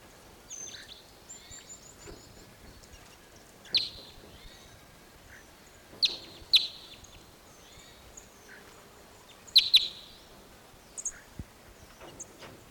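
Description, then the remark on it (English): High, thin calls of birds in an Apache pine sound in scattered bursts, with sharp chirps clustering around a few moments and fainter twittering in between, over a quiet background with no talking. “Those birds all went down lower into another Apache pine set.”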